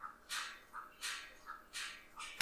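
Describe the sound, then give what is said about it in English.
Percy the dog laps water from a bowl in a steady rhythm of soft wet splashes, with a sharp metallic clink near the end as his little collar taps the bowl. Fairly quiet, no voices. “I don't know if you can hear that, but Percy, our dog, is drinking water and his little collar is hitting the”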